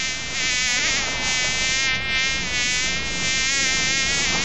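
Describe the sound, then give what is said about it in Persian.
A fly buzzes steadily for several seconds, a continuous droning hum with slight wavering in pitch and loudness, no voices present. “نام ما مگس است. ما بچه گو مگس نواسه خر مگس هستم.”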